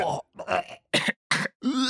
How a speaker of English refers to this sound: it was supposed to be this crowd of people gagging and grossed out by something